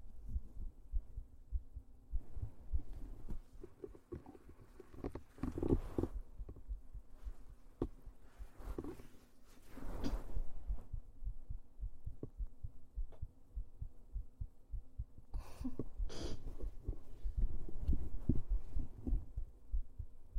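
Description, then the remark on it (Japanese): A mother's steady heartbeat thumps in low, muffled pulses as if through a chest, picked up by a device pressed firmly against the body, with occasional rustling and soft bumps over a constant low hum. “心音聞こえるかな。”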